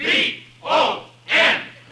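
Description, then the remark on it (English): A stadium crowd at a football game roars wildly as a player runs out onto the field in the fourth period, the cheering swelling in three loud, rhythmic surges, each about half a second apart, like a chanted cheer rising and falling. “And as I ran out into the field, the crowd went wild.”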